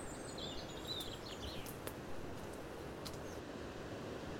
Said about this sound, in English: Well, as you can probably hear from the green noise in the background, I'm a little bit closer to the surf now.